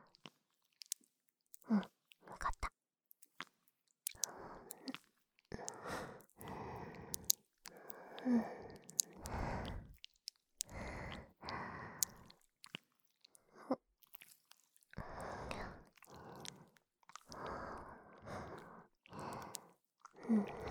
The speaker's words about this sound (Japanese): ところで、この息遣い、マイクに乗っちゃうかな。